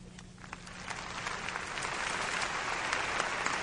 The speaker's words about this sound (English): Come on, give a little clap off and did you?